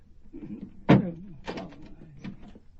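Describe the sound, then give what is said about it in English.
A chained door is unlatched and swung open: a sharp metallic clack, then a second rattling clunk and a softer knock as it opens, with no one speaking. “You've got the door chained. Let me in, Grandpa.”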